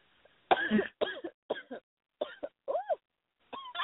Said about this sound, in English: Ooh, I'm having a cough attack.